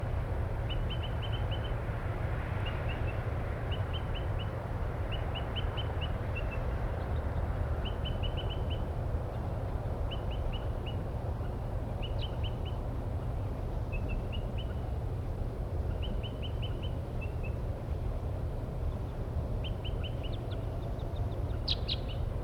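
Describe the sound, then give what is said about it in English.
Crossbill calls from about four crossbills in pine trees near a parking lot area: short, high chip notes in quick clusters of two to four, repeating steadily throughout over a constant low rumble of background noise. “there are about 4 crossbills now near the parking lot area up in the pine trees, and one is still tooping.”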